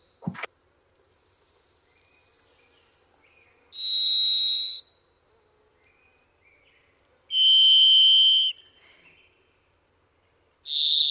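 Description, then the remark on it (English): A robin-sized thrush with an orange and black pattern gives three loud, sustained whistle-like calls, each about a second long and evenly spaced a few seconds apart, against a quiet background; the last call is cut off. “Any former jocks will recognize the gym class whistle that is their call.”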